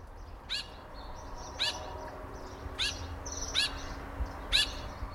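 Austral thrush (Patagonian thrush) song: a series of five short, bright whistled phrases repeated at roughly one-second intervals, clear, over a low hum of background noise with no talking.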